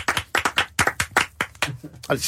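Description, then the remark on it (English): A quick, uneven burst of hand claps, a dozen or so sharp slaps coming at an irregular pace, with some vocal sounds mixed in among them. “So just clap it in, guys.”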